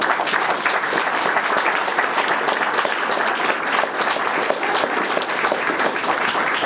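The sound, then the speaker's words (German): Sustained applause from a sizable audience for everyone who took part in a project, dense, steady clapping that stays loud and even for several seconds with no one speaking over it. “Also insofern, glaube ich, mal einen ganz herzlichen Applaus an alle, die beteiligt waren, für alle, die beteiligt waren.”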